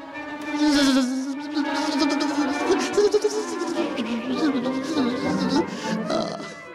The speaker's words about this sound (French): Je ne sais pas si vous êtes comme moi, mais quand j'entends ce bourdonnement de violon, je me sens un peu comme cette mouche prise entre les vitres de la fenêtre et qui refuse de sortir.